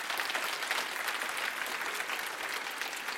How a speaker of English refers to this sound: If you believe that, clap your hands victoriously in this place.